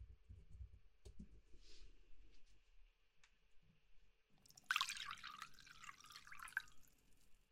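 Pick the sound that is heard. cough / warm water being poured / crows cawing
warm water being poured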